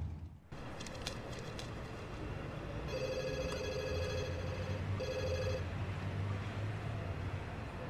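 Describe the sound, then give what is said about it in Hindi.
A telephone rings in two electronic bursts, a longer one followed by a short one, over a steady low background rumble, with no one speaking; the call is from the police. “जरा आके फोन उठा लो।”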